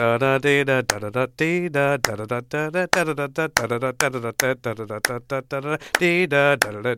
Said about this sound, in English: Is there any way you can kind of clap at the type of rhythmic divisions that you're talking about? Yeah, I can try. Let me see here.